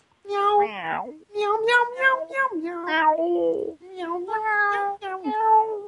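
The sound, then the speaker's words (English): A person imitates a cat, giving a string of drawn-out, wavering meows one after another, fairly loud, with brief gaps between them. “Meow. Meow, meow.”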